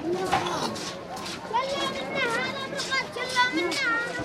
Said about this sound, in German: Kinder spielen auf den gepflasterten Straßen, für Autos sind die meisten zu eng.